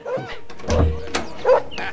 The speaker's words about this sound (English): What's happening next door? Why's their dog barking? I can't hear the radio.